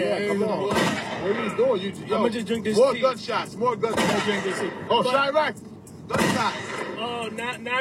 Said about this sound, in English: Gunshots. More gunshots.